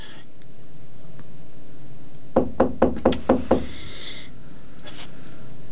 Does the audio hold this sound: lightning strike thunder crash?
no